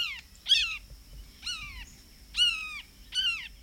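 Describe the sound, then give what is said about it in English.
A bird mimics a red-shouldered hawk with five loud, harsh, downslurred screams, spaced about a second apart, against faint low background noise. “Rattles. And astute mimicry of birds of prey, such as the red-shouldered hawk.”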